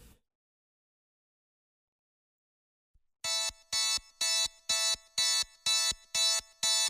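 After about three seconds of silence, a pop rock song intro begins with loud, bright synth chords pulsing in a steady, even rhythm, eight sharp repeated hits close up, with no voices.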